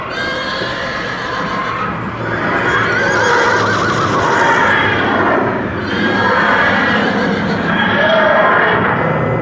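Several carriage horses whinny and scream shrilly in panic, loud, rearing up as the driver tries to control them, their cries overlapping almost without pause, with a faint clatter of hooves underneath.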